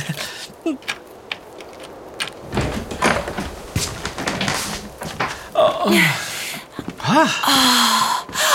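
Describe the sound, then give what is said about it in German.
A key rattles and clicks in the lock of a small cottage's door in freezing cold, followed by the door being pushed open with a scraping, creaking sweep, with a few brief vocal sounds near the end. “Lass uns mal reingehen, ehe wir von der Tür festfrieren. Wo ist denn nur der Schlüssel? Ah, hier. Endlich gefunden.”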